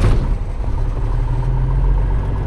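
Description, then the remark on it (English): The engine of a 1959 Piper Comanche, a small propeller plane, idles with a steady, low, throbbing rumble, loud, holding an even pitch throughout with no voices, at Ocean City Municipal Airport on a warm, hazy Friday morning before a flight to Tangier Island. “It's a warm, hazy Friday morning, and pilot Jeff Feige is about to take me and Coastal Connection producer Tara Boyle on a flight in his 1959 Piper Comanche.”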